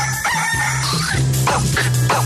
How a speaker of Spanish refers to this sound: El gallo.